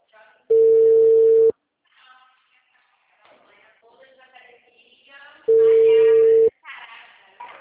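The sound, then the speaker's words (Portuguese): Two loud, steady telephone call tones, each about a second long and evenly spaced, with a low flat pitch. Murmured voices fill the pause between them. “Vamos, deixa eu só terminar essa ligação aqui.”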